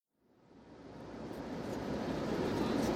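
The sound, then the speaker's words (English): A steady, broad airplane cabin engine hum, aboard a plane flying from Chicago to London, fades in from silence and settles into a constant, fairly loud drone, with no voices over it. “Bob, Steve and Laura are flying from Chicago to London. Listen to what they say on the plane.”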